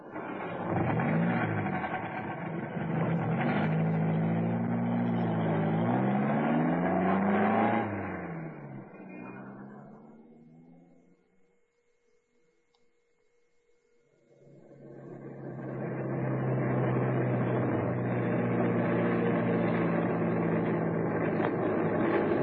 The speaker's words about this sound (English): here he comes, getting into that saloon outside his house. I had an idea that car was his.